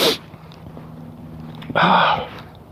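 sniffing and snorting

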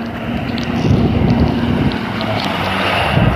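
strong cold wind blowing

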